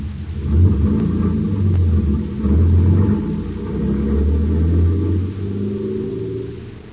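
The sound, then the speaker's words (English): A big truck's engine rumbles steadily at a low pitch as it drives, swerving from side to side, its deep drone swelling and easing slightly, with no voices over it. “It swerves from side to side as the big truck rumbles to an unknown destination.”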